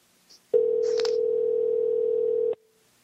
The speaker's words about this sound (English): All right. Now we're going to bring in our guest, Nick Redfern. And we have to do this the old-fashioned way. And the phone is dialing.